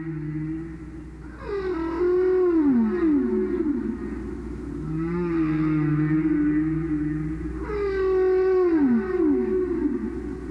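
Long, sweeping whale song calls rise and fall in pitch, moaning tones repeating in three drawn-out phrases over a steady low rumble of ocean background, clear and fairly loud with no talking.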